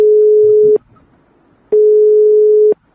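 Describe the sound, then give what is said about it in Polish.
A telephone line tone sounds twice, a steady low beep lasting about a second each time with a short gap between, loud and clear with no voices. It is an unanswered call to Artur Kurzyk, president of the firm GreenTech. “Pan prezes firmy GreenTech nie odbiera telefonu.”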